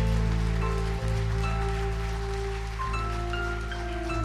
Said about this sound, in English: Let's give him a hand clap, yeah.